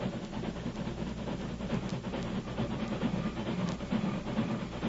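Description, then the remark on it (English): A train approaches, rumbling steadily along the rails with low, continuous mechanical noise and faint clattering, filling the scene with a broad, even roar. “Keep out of sight, you fellas, till the train stops.”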